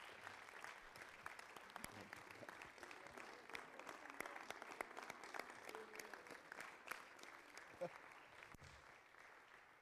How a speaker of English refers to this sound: Can we give him a hand clap?